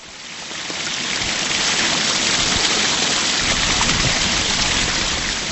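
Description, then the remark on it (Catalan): Steady rushing water flows at an irrigation pond that collects water and sends it through channels to the fields, a broad continuous wash, loud and unbroken for several seconds with no voices. “Estem en el que denomineu la bassa, on d'alguna manera recull aigua i després per diverses canalitzacions arriba al lloc on rega.”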